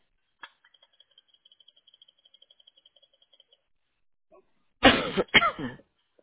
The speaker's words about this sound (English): This darn cough.